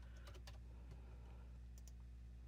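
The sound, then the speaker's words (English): A handful of quiet, irregular clicks from someone typing a password on a computer keyboard to log in to a user account, with a short burst of keystrokes, a pause, then a couple more, over a steady low electrical hum. “Having password typing problems.”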